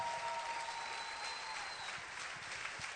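An audience at a church service applauds steadily with hands raised above their heads, a dense wash of many hands clapping at even loudness for about three seconds, with a faint sustained tone beneath it and no talking.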